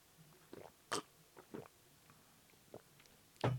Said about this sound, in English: You guys don't need to hear me sipping into a mic. Ooh, that is good. Goddamn, Sam Adams, they make good beer.